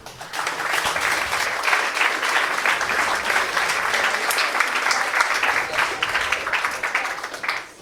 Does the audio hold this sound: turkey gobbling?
no